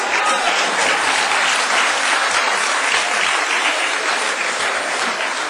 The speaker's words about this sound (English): Now, Madam Speaker, I pause for applause at this stage.